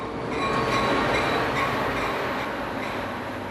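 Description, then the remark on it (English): A train rumbles steadily along the railroad track, a dense, continuous roar of rolling wheels and rattling cars that stays loud for a few seconds, with no voices. “And I started watching the trains come by and always thought that'd be a fun thing to do.”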